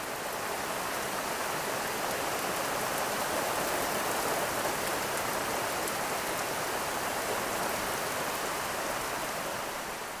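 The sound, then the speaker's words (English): Steady rainfall in Champaign County around 8 o'clock in the morning hisses continuously, a dense, even wash of drops pattering on surfaces with no pauses or changes in intensity and no voices. “Now let's take a moment for some calm and peace and listen to the rainfall that came through Champaign County about 8 o'clock this morning.”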